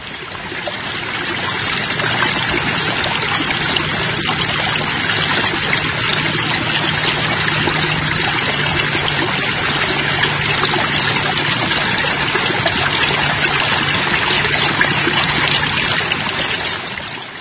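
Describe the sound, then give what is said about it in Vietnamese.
A babbling stream flows steadily over a large rock covered in small plants, a dense, continuous gurgle and splash that stays even throughout, with no voices. “Một con suối róc rách chảy qua một tảng đá to, phủ đầy cây nhỏ, buông xuống thành một thác hoa suối theo dòng nước.”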